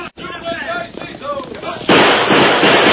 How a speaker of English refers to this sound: I'll fire a few shots to make them think I'm trying to stand them off.